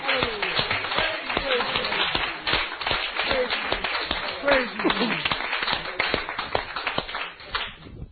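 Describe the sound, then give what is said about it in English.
A church audience claps steadily for about eight seconds to cheer a woman, a dense patter of overlapping hand claps, while voices whoop and call out in excited cheers throughout. “Give her a cheer.”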